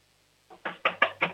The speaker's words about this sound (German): Okay, dann lauf jetzt mal zur Tür und klopf mal volle Kanne an. Wir wollen es richtig bumpern hören hier im Radio.